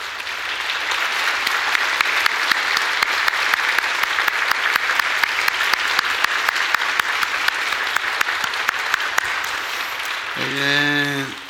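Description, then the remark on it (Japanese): An audience claps steadily for about ten seconds, a dense, sustained wash of applause welcoming three American guests, before a voice begins speaking as the clapping fades at the end. “ご夫妻で、そしてこの前来られたあのマルナルド先生のところの大切なお方、3人のアメリカの方が見えていらっしゃいますので、今ご紹介し、みんなで拍手で歓迎したい。”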